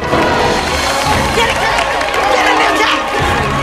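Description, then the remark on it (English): A crew applauds loudly and steadily, a dense wash of clapping mixed with cheers and excited voices that carries on without a break from start to finish. “It's a long, lingering kiss while the crew applaud.”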